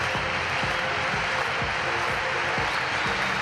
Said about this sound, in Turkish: Bu yoğun destek onun için. İşte Tuğba ilk atlayışı, büyük bir tezahürat var onun için. Kendi evinde Tuğba Danışmaz finalde ilk atlayışını yapıyor.